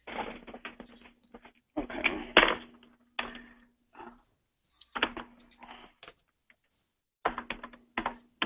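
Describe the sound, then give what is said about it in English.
Rapid wooden clicking of abacus beads as a man works out a timed calculation, in irregular bursts with short pauses between clusters, moderately loud against a faint steady hum. “He has his abacus working. I hear his abacus clicking away there.”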